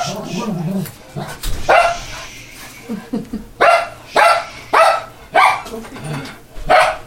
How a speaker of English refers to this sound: I've learned to stop trying to talk over the dog because it makes it hard to edit.